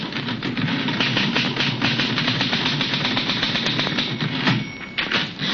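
Rapid, steady clacking of typewriter keys, fairly loud, with a continuous mechanical rattle and a brief pause near the end; no voices. A newspaper editor types in deep concentration at his typewriter in the living room of his house.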